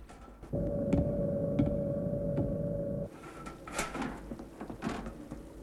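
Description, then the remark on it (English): Grey floor tiles are scraped and knocked back into place in a lab with a few clunks and shuffling scrapes, a steady mechanical hum running underneath for the first half. “Alex carefully puts back the floor tiles”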